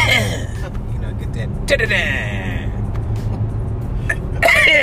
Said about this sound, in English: Yeah, there you go. Get that shit out. Cough like a man.